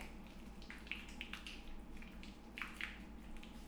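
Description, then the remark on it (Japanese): Soft, wet squelching of bar soap being lathered between hands to wash someone's back, a steady run of small slippery squishes with a few sharper smacks, quiet with a faint low hum behind. “石鹸をこうして手で泡立てて。”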